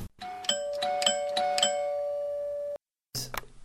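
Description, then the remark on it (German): A doorbell at a home's front door chimes in a quick series of bright, ringing tones that sustain and fade, followed by a short pause and another brief burst of chiming. “Am nächsten Tag, während sie Fernsehen schauen, läutet es plötzlich an der Tür.”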